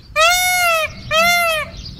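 peacock call

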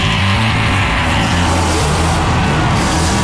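car engine starting

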